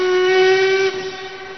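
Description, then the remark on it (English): A loud, sustained steam train whistle sounds in one long blast as the train departs, bright and harmonic over a hissing background, then drops in level as it trails off. “Weren't we supposed to get that train? Was that the London train?”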